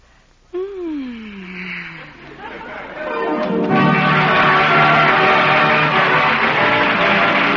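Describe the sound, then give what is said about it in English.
A short falling voice-like tone, then a standing theater audience at the final curtain of a play premiere at the Little Theater off Times Square breaks into loud applause mixed with cheering voices that swells after a few seconds and holds steady until the end. “The audience is on its feet applauding.”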